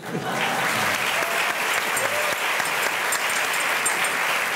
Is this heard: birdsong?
no